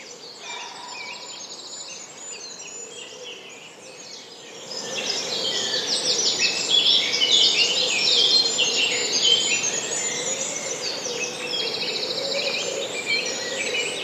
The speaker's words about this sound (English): And the chaffinch is in there too, and they have a descending, they end of, they come down and then they give a flourish at the end, they go up again at the end. Sort of at the end, sort of going, doo doo.